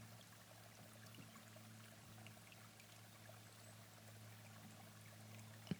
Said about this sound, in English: Now slowly pour the hot water into your mug and watch the way the water slowly changes color.